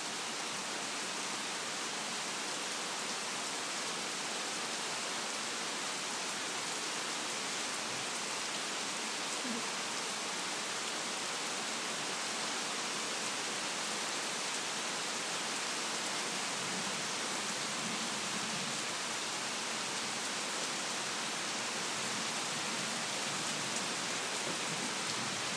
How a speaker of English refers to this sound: This is how a tropical storm sounds in the tropical North Carolina. And you can hear a little bit of the thunder, but it's not very close, so it's just every so often. Not very loud and persistent yet. The rain has started in earnest now.